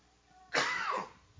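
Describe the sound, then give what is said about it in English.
A single harsh cough bursts out after a quiet moment, the rough spluttering sound of someone clearing their throat after something went down the wrong tube, fading over about half a second. “after I cough... Excuse me, something went down the wrong tube.”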